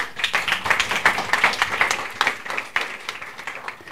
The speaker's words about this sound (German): Hier klatschen die Schülerinnen und Schüler von zwei 11. Klassen aus der Stadtteilschule Fischbeck-Falkenberg. Die liegt in Hamburgs Süden. Und die haben gerade einen 90-Minuten-Vortrag gehört